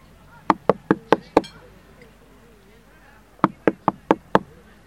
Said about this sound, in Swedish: Och det sista ljudverket är just knackningar på en dörr.